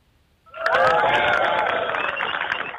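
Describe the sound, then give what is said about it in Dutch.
A crowd at a Ronde om Texel gathering breaks into loud, sustained applause for the former chairman of the race after a brief quiet moment, with cheers and whoops rising above the dense clapping and holding steady to the end. “Mag ik een heel groot applaus voor deze man?”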